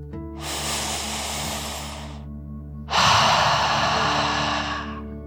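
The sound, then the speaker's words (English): A slow, deep breath drawn in through the nose, filling the lungs, a short pause, then a louder, forceful breath blown out through the mouth, airy with no talking. “Breathe in through your nose, filling up your lungs, and then out through your mouth. Imagining you are breathing fire, like a dragon. Ready? Deep breath, in and out.”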